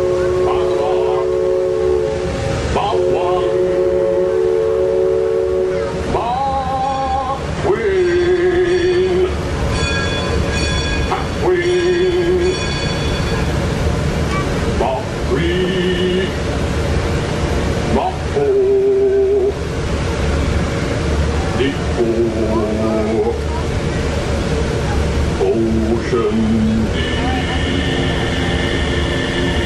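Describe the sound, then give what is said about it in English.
A river steamboat's engine churns steadily underneath as the boat casts off and gets under way, while a steam whistle sounds repeatedly, its chorded, multi-toned blasts varying in length and pitch, some short toots, others long, loud wails. “On a steam-powered journey along the rivers of America.”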